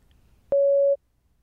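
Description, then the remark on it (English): A single loud electronic beep from a speaking test prompt, a steady mid-pitched tone lasting just under half a second, with near silence before and after. “Please prepare your answer after the beep.”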